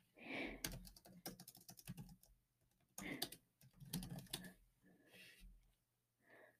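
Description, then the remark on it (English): Rapid clicks of someone typing a chat message on a computer keyboard, coming in quick uneven bursts separated by short pauses, fairly crisp over a low hum. “Typing in chat.”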